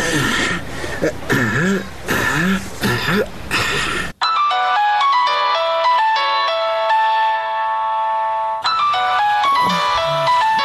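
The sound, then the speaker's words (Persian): A phone's melodic electronic ring tone plays steadily and loudly for several seconds, set between bursts of harsh, throaty vocal noise before and after it. “باش که در تلفن زنگ بزنم.”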